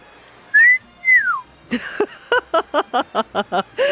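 A person whistles two short sliding notes, then a quick run of about eight rhythmic, chirpy whistled pulses, fairly loud with no talking.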